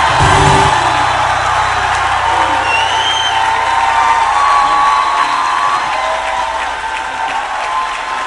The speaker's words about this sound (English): With a standing ovation and a round of applause, please welcome Reverend Funke Felix Adejumo.